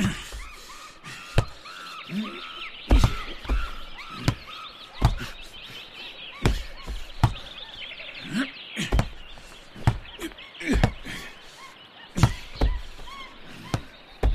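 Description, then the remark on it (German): Benjamin the elephant kicks a football against the wall of the elephant house at the zoo again and again, each impact a sharp, loud thud at an uneven pace, with birds chirping steadily in the background. “Immer wieder schießt er einen Ball gegen die Hauswand.”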